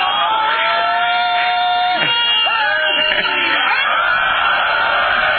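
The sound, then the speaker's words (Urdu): A large crowd shouts a slogan in unison, loud voices swelling and overlapping in a sustained roar with sharp rising whoops, continuing steadily for several seconds. “ابھی ایک نعرہ لگائیں گے صرف اس لیے کہ اعلان ہوا ہے.”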